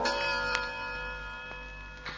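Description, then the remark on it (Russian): A spring-driven mechanical clock, its hands driven by a tightly wound spring, ticks softly and steadily while the lingering, bell-like ring of its chime hums underneath, fairly quiet, with no voices. “Часы, где стрелки, приводимые в движение туго скрученной пружиной и громкий бой, напоминают о неумолимом времени.”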